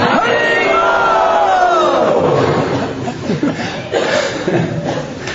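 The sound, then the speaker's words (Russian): A crowd shouts Haribol together in a loud, drawn-out chorus whose pitch slides downward, then breaks into scattered voices and a bit of laughter that fade off. “Крикните Харибол.”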